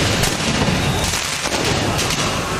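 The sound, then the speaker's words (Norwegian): Several sharp bangs of fireworks and smoke bombs pop at irregular intervals through a loud, continuous roar of a crowded street in Paris, where tens of thousands celebrate Paris Saint-Germain winning the men's Champions League; the background noise is dense throughout. “Med røykbomber, fyrverkeri og nødbluss, som startet branner der både biler og sykler ble totalskadet.”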